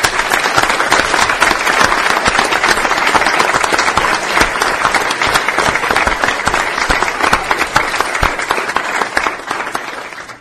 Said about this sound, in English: Just out of curiosity, those other military families who are with us this evening, can you just raise your hands? And I think they all deserve a round of applause.